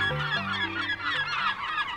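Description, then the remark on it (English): A raucous chorus of American herring gulls calling over one another, harsh overlapping cries filling the whole stretch without pause, like a busy colony. “With white and gray feathers, a piercing stare, and noisy screams, the American herring gull is what most folks might call a seagull.”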